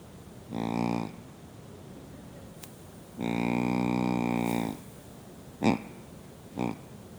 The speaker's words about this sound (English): And that's a buck grunt, all right? And trying to get attention of the animal to come and check it out.